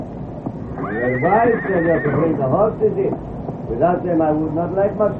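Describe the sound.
A horse whinnies loudly as the horses are brought in, a drawn-out, wavering neigh followed by shorter snorting calls, with voices talking underneath and a faint clip-clop of hooves.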